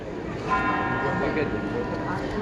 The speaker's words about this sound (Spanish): Primero escuchamos el murmullo en el interior de la basílica, después el campanil dando las 9, al que siguen las campanas de San Lorenzo.